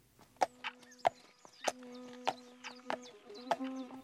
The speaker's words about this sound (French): Et si c'était un pas de cheval ?